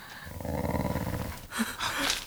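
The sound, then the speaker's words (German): Fierce dogs growl low and close, a rumbling, continuous snarl for over a second, then break into two harsher, louder bursts of snarling. No one speaks. “Wölfe. Psst. Quatsch. Ihr Hunde. Sie sind ganz nah.”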